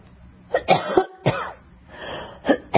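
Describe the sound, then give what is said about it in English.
A person coughs repeatedly, a quick cluster of harsh, throaty bursts followed after a short pause by two more coughs, with no talking in between. “I apologize, I have a cough.”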